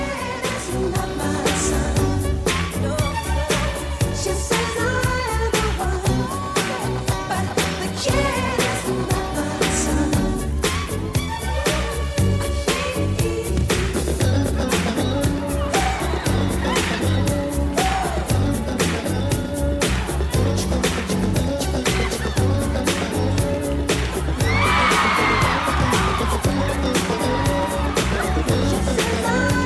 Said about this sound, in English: The applause at the end is when he moonwalks.